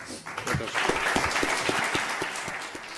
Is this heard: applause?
yes